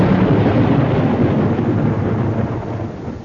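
Deep, loud thunder rolls on continuously for a few seconds, a heavy low rumble with a faint rain-like hiss on top, easing slightly toward the end. No one speaks.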